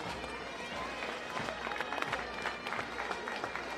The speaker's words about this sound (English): We come here, ladies and gentlemen, big round of applause for the Cavan Indian Association.